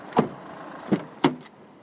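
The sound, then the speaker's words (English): Car park ambience: three sharp clunks spaced irregularly over a quiet, steady background, with a fainter knock just after the last, and no one talking. “So now I've arrived at the car park.”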